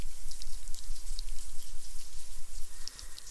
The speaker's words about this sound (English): even in this shower with all the soap and the water